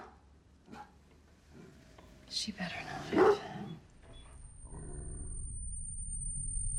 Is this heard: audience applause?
no